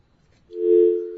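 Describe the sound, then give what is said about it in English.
A radio call-in show's telephone line rings with incoming calls, a single steady electronic tone that starts partway through after near-silence, holding loud and even until the end. No one speaks. “We got some calls. The phones are going nuts.”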